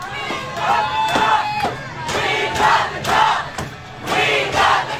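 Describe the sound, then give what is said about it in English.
A large crowd of Colorado Avalanche hockey fans cheers and shouts in rolling waves, loud and sustained, with whoops and chanting voices swelling roughly every second or two, celebrating the Avs' Stanley Cup NHL championship win over the Tampa Bay Lightning. “Colorado hockey fans are celebrating.”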